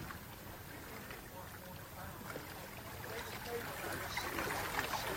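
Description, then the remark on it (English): Lake water of the Sea of Galilee laps and splashes in a steady, continuous wash, with small splashes scattered throughout and the sound swelling a little toward the end. “But anyway, here's just a little video clip from the Sea of Galilee.”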